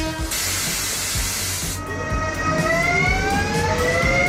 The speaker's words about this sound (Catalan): Aquest és el so d'un tren de l'R2 aquesta nit a l'estació de Granollers, l'única línia que es va restablir ahir a última hora.